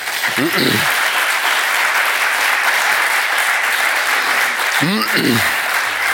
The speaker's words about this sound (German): Ein Applaus wurde da angedeutet. Sie dürfen gerne auch applaudieren, bitte.